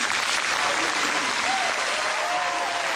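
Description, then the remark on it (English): Sustained audience applause, a dense steady wash of many hands clapping at even loudness for the full three seconds, with faint crowd murmur mixed in, as a high school valedictorian at Liberty publicly prays the Lord's Prayer during his valedictory address. “interrupted by applause as he prayed publicly the Lord's Prayer to the credit of the administration and the school board.”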